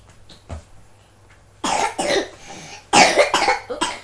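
A small child in a nappy has a bad cough: harsh, wet coughing in two quick bursts, several rough hacks in a row, loud, after a quieter stretch with a faint thump and rustle.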